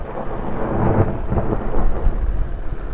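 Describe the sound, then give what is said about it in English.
A deep, rolling boom from a daisy bell gas exploder used for avalanche control. The device dangles about 150 feet below a helicopter and ignites a blend of oxygen and hydrogen with a spark, punching the snowpack. A low thunder-like rumble fills the whole few seconds with no voices. “The daisy bell creates a concussive blast by blending oxygen and hydrogen, then adding a spark that ignites the mix.”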